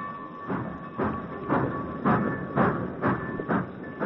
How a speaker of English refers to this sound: Britt watched as his father's train moved out of the station.